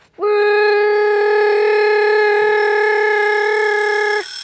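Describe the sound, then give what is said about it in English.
An alarm clock rings with one loud, steady, harmonic buzzing tone that starts abruptly, holds unchanged for about four seconds, then cuts off. No one speaks. “No, it wasn't butterfly wings. It was the alarm clock.”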